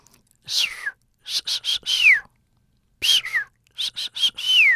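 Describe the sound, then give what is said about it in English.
A person mimics a dolphin's signature whistle with two quick runs of breathy, squeaky bursts that swoop and slide downward in pitch, separated by a short pause. “But what they do know is that each dolphin seems to have its own kind of signature whistle.”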